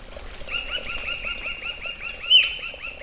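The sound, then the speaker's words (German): Forest birds chirp in a quick, steady run of repeated calls over a constant high insect-like drone, with a soft rushing murmur of a gurgling jungle stream underneath and no voices; recorded in a national park forest. “Und ich würde vorschlagen, wir lauschen jetzt noch ein bisschen dem Gurgeln des Wassers und den Vögeln des Waldes, die ich dort für euch aufgezeichnet habe.”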